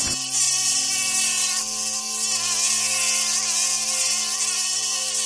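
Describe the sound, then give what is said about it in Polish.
A dense swarm of mosquitoes whines continuously, a loud, steady high-pitched buzzing that fills the whole stretch without pause, with no voices present. “I z pyłu powstały całe chmary komarów, a niektóre z nich były 3 razy tak wielkie jak zwykłe komary.”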